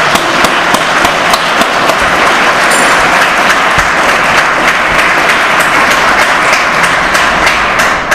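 Steady, dense applause from a sizable audience honoring a former teacher who celebrated his 89th birthday the day before, many hands clapping at once in a continuous loud roar that holds evenly for several seconds with no voices on top.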